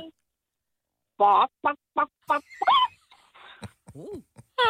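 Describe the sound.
A person imitates a chicken, loudly: a quick run of five or six clucking bursts, then a drawn-out squawk and a few softer, wavering clucks.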